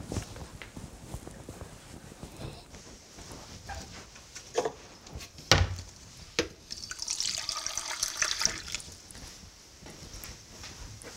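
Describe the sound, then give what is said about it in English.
A few sharp knocks and clinks, then a steady splashing hiss of water poured into a glass for a couple of seconds, with soft shuffling movement in the background. “Here, have some water.”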